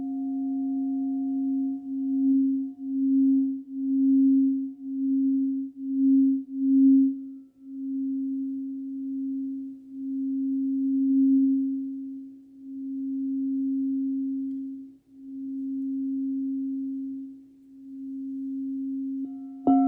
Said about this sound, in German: Genau, und dann noch eine Kristallklangschale. Genau, das ist jetzt zum Beispiel eine von meinem Set. Das ist mit Tigerauge zusammen. Also da ist Tigerauge außen nochmal draufgebracht.